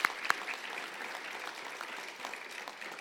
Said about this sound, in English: Thank you so much. Let's give them a round of applause, our eighth grade parents.